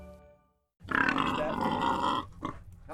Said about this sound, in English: Helen is a 15-year-old sow, and that's old for a pig. She's 500 pounds and she's blind.